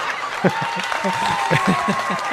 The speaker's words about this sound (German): Die Leute lachen nicht, sondern du kriegst Applaus für den Gag sogar.